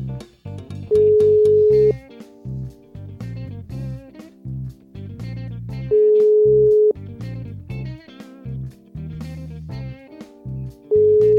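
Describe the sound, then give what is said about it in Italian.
A phone call's ringing tone sounds in steady one-second beeps, repeating about every five seconds, over rhythmic background music with a bouncy beat, as the radio show Valigia di Cartone calls a guest. “Intanto squilla, il tempo squilla.”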